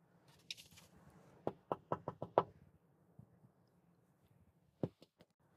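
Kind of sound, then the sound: household object, knock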